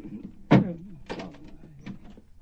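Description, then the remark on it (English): A chained door is unlocked and opened: a sharp metallic clack, followed by a couple of softer rattling clicks as the chain and latch are worked loose. “You've got the door chained. Let me in, Grandpa.”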